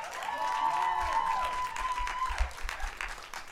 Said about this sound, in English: My guest today is someone that I love so much. From the Tiger Belly podcast, ladies and gentlemen, big round of applause for the one and only Bobby Lee.